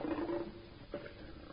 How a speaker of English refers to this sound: Well, what does it say? Lion! It's a lion!